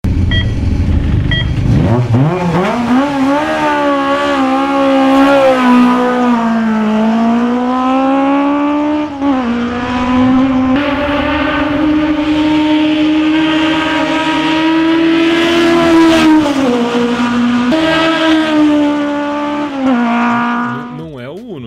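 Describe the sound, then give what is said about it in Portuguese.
A high-revving Italian inline four-cylinder, single-cam, 8-valve engine in a 1.5R car screams loud, its pitch climbing, briefly dropping between gear shifts, then rising again in a sustained run of about twenty seconds. “Vocês já devem ter adivinhado qual que é o motor, mas eu quero que vocês adivinhem em que carro está esse motor aí, nesse som que vocês vão ouvir agora, tá bom?”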